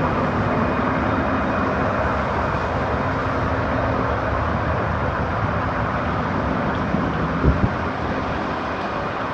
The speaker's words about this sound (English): This is freaky. It's raining here, but there's no severe thunderstorms or anything. It's just a light rain and this noise.